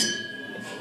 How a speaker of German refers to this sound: Komm, lass uns erstmal anstoßen auf einen schönen Abend. Yes. Auf jeden Fall. Gleich zwei Gläser. So, Prost, ne?